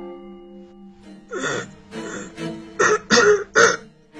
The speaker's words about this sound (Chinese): 远处门外传来了咳嗽的声音